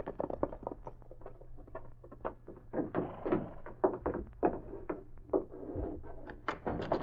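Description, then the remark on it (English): Irregular hoof thuds and clops of two horses being led slowly on foot by two Mounties walking to a cabin, steady, over a low background hum with no voices. “Leading their horses, the two Mounties walked to the cabin.”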